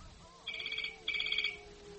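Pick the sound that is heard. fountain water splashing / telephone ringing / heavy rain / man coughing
telephone ringing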